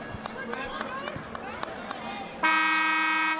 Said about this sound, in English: Porter lowers her head, comes in strong from the right side, and a whistle and a foul.